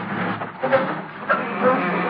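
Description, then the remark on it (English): A squeaky garage door grinds and rumbles open, with several short, shrill squeaks cutting through the steady mechanical noise, as Gildersleeve tries to open it quietly. No one speaks. “I'll open the garage door real easy.”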